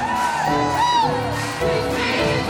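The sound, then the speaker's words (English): A large church audience shouts, whoops and cheers all at once, many overlapping voices rising and falling in a loud, continuous roar of excitement with scattered high-pitched yells. “We clap our hands. We stomp our feet. We shout unto God with a voice of triumph.”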